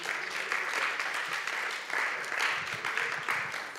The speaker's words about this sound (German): Danke vielmals, noch einen herzlichen Applaus.